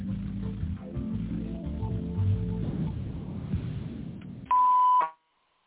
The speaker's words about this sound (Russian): Если вы знаете добавочный номер абонента, наберите его после звукового сигнала или дождитесь ответа секретаря.